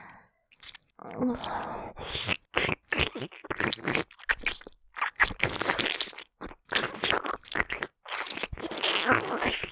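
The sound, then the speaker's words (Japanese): Wet, squelchy licking and lip sounds of a tongue and lips licking deep into an ear come in irregular bursts with brief pauses, a sticky, crackling mouth texture throughout. No one speaks. “このままお耳の奥まで、お姉さんのベロと唇で、ネトネトにしてあげる。”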